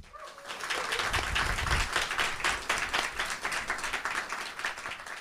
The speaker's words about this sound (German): Und damit unsere Zuhörerinnen auch verstehen, dass das hier live ist, macht doch gerne Applaus für meine Gäste.